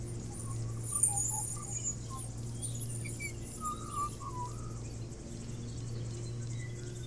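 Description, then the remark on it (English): A bird of unknown species calls intermittently in short, chirping phrases, faint against a steady low rumble and a thin, high insect-like hiss that runs throughout, outdoors in a soft breeze with a road a little way uphill. “I don't know what sort of bird it is.”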